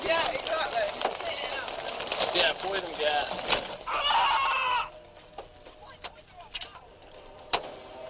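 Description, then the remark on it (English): A car's back window glass shatters in a loud, chaotic burst of crunching and cracking with voices mixed in, then the noise drops away to scattered sharp ticks and tinkles of falling shards. “I got glass in my eyes, I think, yeah. Oh, God. Jeez. What did we lose? Back window.”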